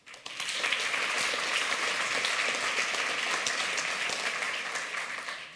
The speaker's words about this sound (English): Before we start, I will actually ask you to give a big clap to the organizers, because I think they're doing an amazing job, and like, I'm very happy to be here with you today.